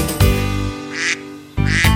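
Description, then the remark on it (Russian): A duckling quacks several times in quick succession, loud, with short nasal calls in pairs over a steady musical backing, singing a duet with a frog in a song. “Однажды жарким летом решили спеть дуэтом лягушка и утенок.”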